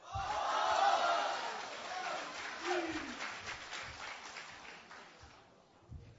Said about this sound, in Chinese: 谢谢，感谢各位的掌声鼓励。